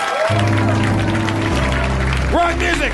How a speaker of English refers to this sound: Rock music! We keep clapping! There we are.